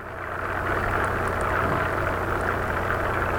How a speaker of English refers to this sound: Barry notes the wall has green lights. As well as calming bubbles. And if you'll listen closely, you'll hear that noise. And all of this can be very soothing to someone who might need that particular resource.